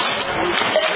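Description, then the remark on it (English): A checkout counter sound effect: a short burst of bright, clattering noise with a brief steady tone near the end, loud and alone with no one talking. “Yes, that is the sound of the checkout counter.”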